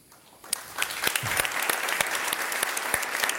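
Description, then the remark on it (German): An audience bursts into applause, many hands clapping in a dense, steady patter with a few sharper individual claps standing out, sustained and fairly loud after a brief quiet start. “Das ist Ihr Applaus.”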